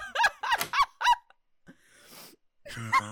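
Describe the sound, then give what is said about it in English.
A bathroom door swings shut with several loud, squeaky hinge creaks that almost sound like honks, followed by a soft scraping sweep and one final groaning creak, with no talking. “Close the door.”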